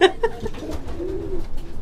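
pigeons cooing

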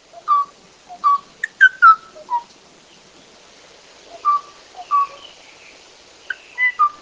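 male bird calling

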